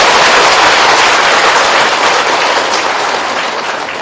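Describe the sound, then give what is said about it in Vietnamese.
A large crowd of Buddhist followers at a Buddhist gathering claps loudly and continuously, a dense wash of applause that holds steady for a few seconds before tapering slightly at the end, with no voices over it. “Xin cho tràng pháo tay ông này.”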